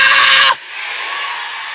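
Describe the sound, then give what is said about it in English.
A crowd erupts in loud screaming and shouting, a sharp piercing burst at first that settles into a sustained roar of many voices. “Somebody scream, I got greater.”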